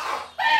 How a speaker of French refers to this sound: Puis là, elle va éternuer, puis il va l'entendre.